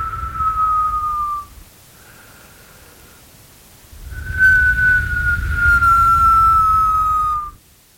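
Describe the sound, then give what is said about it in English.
Haunting wind of the Candlemas crack, a wind that hits every year, whistles in long, steady tones that slowly sag in pitch, carried over a rough, gusty rumble. Two strong moans bracket a fainter one, with no voices. “It's a haunting whistle, but it's almost like a voice calling to us.”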